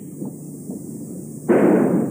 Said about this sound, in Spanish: El disparo sonó dentro de la casa de los Tura.